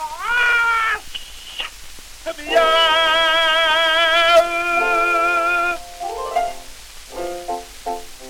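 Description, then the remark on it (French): A cat meows repeatedly and loudly: a couple of short calls, then one long, wavering, drawn-out yowl, followed by a quick run of shorter, choppy meows. “plusieurs matous, miaou, miaou, comme des fous, miaou, miaou, valsaient gaiement en répétant, miaou, miaou”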